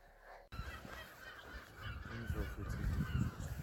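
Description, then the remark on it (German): Gulls screech and squawk repeatedly over a steady urban background hum in Glasgow at 5:40 in the morning as the city wakes, several harsh calls overlapping, with no one speaking. “Die Stadt erwacht und diese Möwen, die kreischen herum, das ist unglaublich.”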